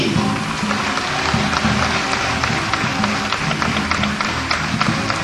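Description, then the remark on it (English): A crowd applauds JB steadily, a dense wash of clapping at an even, loud level for several seconds, with a low rumbling murmur underneath and no clear voices. “applause for the fantastic JB!”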